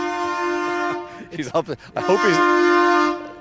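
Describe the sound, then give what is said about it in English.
The horn of the Wexford train sounds two long, loud, steady blasts, one at the start and one near the end, with a person talking briefly in the gap between them. “It's great to see the Wexford train, just in case people are worried about the hooting.”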